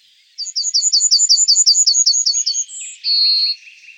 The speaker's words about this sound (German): Dabei werden die Vogellaute in menschliche Sprache übersetzt. Also sowas wie, die Goldammer singt, wie hab ich dich lieb.